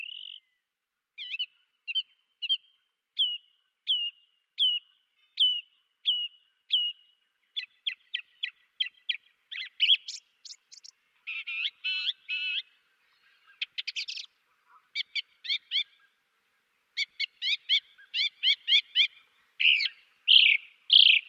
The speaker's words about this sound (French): Voilà une grive, c'est une grive musicienne enregistrée par Jean-Claude Roche.